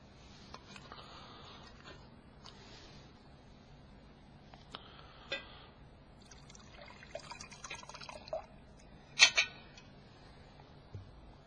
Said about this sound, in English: And then pour the cup. Well, maybe I'll pour the cup.